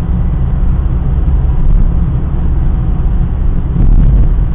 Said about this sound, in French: Je pense que ça va rester assez pénible à écouter parce que bah, y a le bruit de la voiture hein. Donc bah, j'ai un diesel et ça fait du bruit quoi.